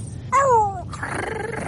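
A dog growls, a brief snarling cry that slides downward, then trails into a rough, breathy rumble, with no one talking.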